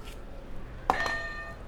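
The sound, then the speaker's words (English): A single bright electronic buzzer, hit as a button during a children's math and word exercise, sounds with a sudden onset, its steady ringing tones holding briefly and then fading out over under a second, with no talking. “All right, can you hit another buzzer for me?”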